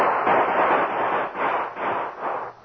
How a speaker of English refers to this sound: Some leaped for weapons and horses. Others peered into the darkness, trying to learn the source of the shooting. Then the masked man and Tonto reopened fire.